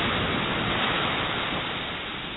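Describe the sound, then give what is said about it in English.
Ocean waves wash steadily onto the shore in a continuous, fairly loud rushing hiss with no distinct breaks, easing off slightly toward the end, with no voices. “Stepping forward. In the waves. The waves. That embrace.”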